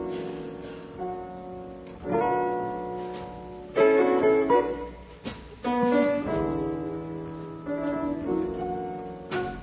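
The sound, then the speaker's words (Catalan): A live recording of a six-minute slow blues song from an album released in 1980 plays its instrumental intro with no singing yet: rich sustained chords and melodic phrases that swell and fade, with sharp note attacks every second or two at a steady, moderate level. “pertany a un disc que va publicar en l'any 80, amb el original títol de …, és a dir, en directe”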